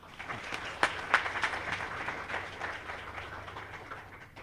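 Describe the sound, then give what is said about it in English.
An audience applauds to welcome two speakers, with a dense, crackling patter of many hands, a few sharper claps standing out early on before the clapping steadily thins and fades. It stays fairly soft, with no voices. “But as he comes up to speak, let's give them both a round of applause to welcome them.”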